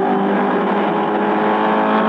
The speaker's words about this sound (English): Le Mans, France, June 1967. You're listening to the car that won, the Ford Mark IV,